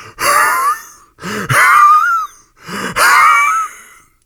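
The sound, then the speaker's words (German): A voice imitates a horse panting heavily, three loud breathy gasps in a steady rhythm, each rising and trailing off with a wheezy, rasping edge, with no talking. “klang plötzlich so seltsam, eher wie ein Schnaufen.”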